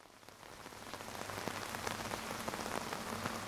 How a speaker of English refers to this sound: I still remember because I looked at my watch about 2:47 a.m. I was awakened by what sounded to me like heavy rain. And I was very excited about that. So I threw my shoes on. I hopped out of the tent. Sure enough, I could feel it coming down.